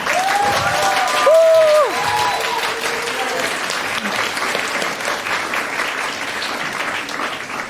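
An audience applauds steadily for several seconds for the first group presenting its computer game Save the Alpaka, a dense, loud wash of many hands clapping, with a brief high-pitched cheer rising above it near the start.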